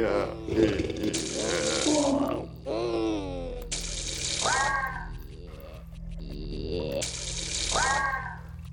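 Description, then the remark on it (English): Water drips and splashes in repeated bursts in the background, louder than gentle, mixed with gurgling, groaning creature-like noises and a low rumbling background. “There's like soft water dripping in the background.”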